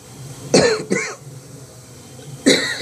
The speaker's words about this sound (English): You will hear a little bit more of this tonight, coughing, but tomorrow it's gone.